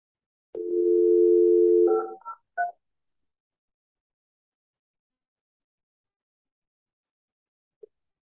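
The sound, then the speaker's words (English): A steady dial tone from a conference polyphone plays for about a second and a half, then a quick run of clear touch-tone dialing beeps follows as a call is placed to the City of Carlton, with silence afterward apart from one faint blip. “What we could do is if you want to call him, we do have this polyphone.”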